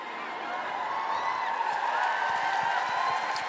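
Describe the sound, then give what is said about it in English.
An audience at the Royal Albert Hall cheers and applauds the mention of Greta Thunberg in a steady, dense wash of noise, with scattered sharp claps running through it for the whole few seconds. No one speaks over it. “Yeah, you can cheer Greta Thunberg.”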